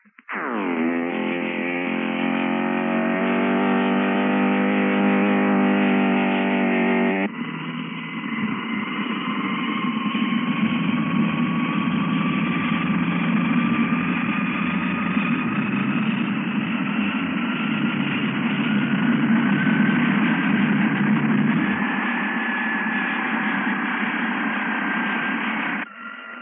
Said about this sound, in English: And now, here is the weird, screaming sound of those two jet motors as the ground crews prepare to start them up.